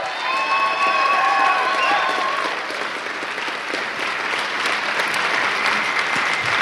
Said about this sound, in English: One more round of applause for these wonderful humans.